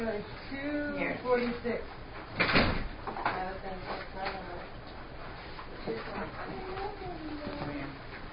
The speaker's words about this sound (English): Okay, I'll be right back. Sorry. I'm gonna shut the door.